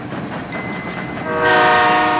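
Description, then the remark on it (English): A train travelling to Spain rumbles steadily along, and a sharp high whistle-like tone cuts in briefly before a loud, sustained train horn blares over the noise. No one speaks. “They take a train to Spain.”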